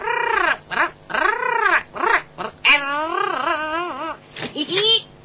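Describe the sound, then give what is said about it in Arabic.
A beautiful, rare caged bird squawks loudly in a rapid series of harsh, rising-and-falling calls, including one longer warbling cry, with brief gaps between them and no talking. “أنا آسف جدا، إنه طائر جميل ونادر أيضا.”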